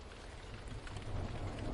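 Steady rain falls in a continuous, dense hiss with a low rumbling undertone, growing slightly louder toward the end. No voices, just the even wash of rainfall.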